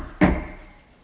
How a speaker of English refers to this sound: He knocked on the door.